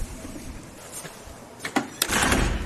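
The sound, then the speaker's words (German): A heavy museum door at the St. Annen-Museum, St. Annenstraße 15, is pushed open with a creaking, scraping sweep, followed by a couple of thuds and a sustained rushing rumble as it swings and settles, with no talking. “Und durch diese Tür gehen wir jetzt hindurch.”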